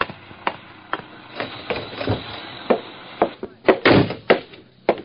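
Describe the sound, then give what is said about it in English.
An apartment building's hall door being opened as detectives go in, heard as an irregular run of wooden clunks, latch clicks and rattles, building to a louder cluster of thumps near the end, with no voices. “So we went in, through the hall door, reached Wesley's apartment, and then...”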